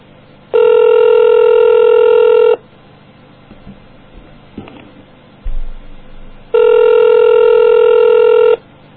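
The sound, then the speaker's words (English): Two long, steady ringback tones of an outgoing phone call, about two seconds each, with a pause of faint rustling from someone handling the phone and a low thump between them; no one answers. “I thought somebody picked up.”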